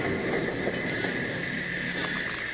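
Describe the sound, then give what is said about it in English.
A train from St. Louis rumbles as it pulls into the Eagle's Nest station and comes to a stop, a dense, steady roar of rolling cars with a faint metallic whine riding on top, loud and continuous with no voices. “the train from St. Louis arrived at the Eagle's Nest station. Bill, Jingles, and Packer watched it come to a stop”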